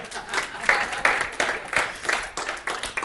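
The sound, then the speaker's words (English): An audience breaks into applause, a dense wash of many hands clapping at a steady moderate level for a few seconds, with faint voices mixed in. “You can give me a hair clap for that.”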